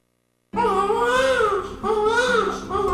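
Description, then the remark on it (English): After a brief moment of silence, an infant bursts into loud, high-pitched crying: sustained, wavering wails broken by short breaths into about three cries, with no other voices. “Once you first hear that little voice, everything changes.”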